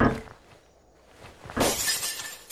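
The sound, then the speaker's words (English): A glass window shatters with a sudden bright crash, followed by a second of crunching, tinkling shards falling; a soft knock comes just before, and no one speaks. “All I need to do now is reach inside. Ow! Bloody glass.”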